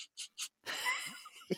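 A person sniffs old toys: three quick, sharp sniffs in a row, then a longer, deeper drawn-in breath, with no talking.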